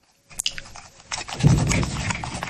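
The squeaking scroll wheel of a cheap, aubergine-coloured Bluetooth mouse being rolled, making a rapid, scratchy run of ticks and squeaks that starts faintly and grows steadier and louder after about a second, with no voices.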